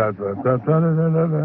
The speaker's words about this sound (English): They stood grimly, hour after hour, humming. Hours humming.